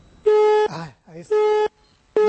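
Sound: telephone busy signal tone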